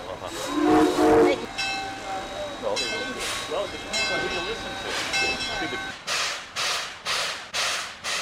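steam train

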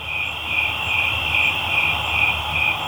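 crickets chirping at night

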